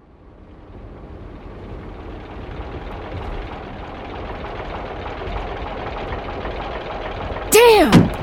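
A rented car's motor jerks and coughs while jouncing along a severely rutted dirt track, a rough, low rumble that swells steadily louder, then a brief high wavering whine cuts in just before the end.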